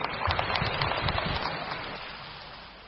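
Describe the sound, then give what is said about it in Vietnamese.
The audience of a one-day Buddhist retreat claps steadily, a dense patter of many hands that stays fairly loud for the first half and then gradually thins and fades toward the end. “Xin quý vị hãy lắng nghe sự trả lời của Ni trưởng Tố Liên với tràng pháo tay.”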